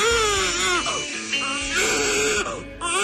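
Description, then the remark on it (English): A newborn baby cries loudly in strained, wavering wails that rise and fall across several breaths, with only brief catches between bursts. “A mom posted a video of her baby crying, and the only way she could get the little newborn to calm down”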